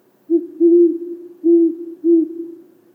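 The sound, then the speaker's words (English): A great horned owl (Bubo virginianus), a large owl found across North America and in parts of South America, hoots alone in a deep, low series of about four or five soft, resonant notes, some short and some drawn out, in a steady rhythm. “For now, let's look at the great horned owl, Bubo virginianus.”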